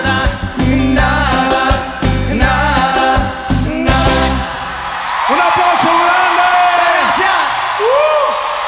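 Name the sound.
audience applause and cheering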